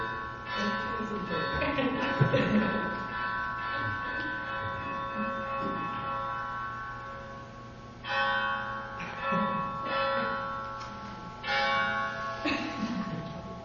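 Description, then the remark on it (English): A church bell rings on and on on a Saturday during a class, each new strike swelling over the long, humming overtones of the last, steady and fairly loud with no voices. “But on Saturday when we're having the class, It seems interminable, the ringing of the bell.”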